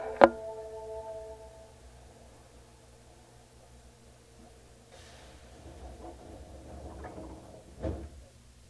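Subway train doors close at Higashi-Umeda Station, Osaka, on a train bound for Kire-Uriwari, with a sharp clunk and a brief ringing tone, followed by a low steady rumble and a few rattling thuds toward the end; no voices.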